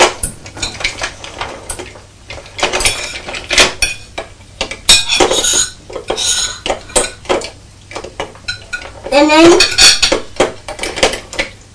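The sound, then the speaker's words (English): Clatter of pots and cutlery being washed up after a meal: irregular clinks, knocks and scrapes in quick succession, with a brief squeaky scrape near the end and no voices. “We'll have to wash up, won't we? Wash up the pots.”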